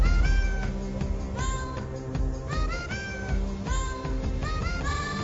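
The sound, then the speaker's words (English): A Siamese cat's meows, auto-tuned into a sequence of sung notes, play a TV series theme song over a steady musical backing, with repeated rising and falling tones forming a catchy tune. “I play an auto-tuned cat singing the GD Game of Thrones theme. It's a Siamese cat.”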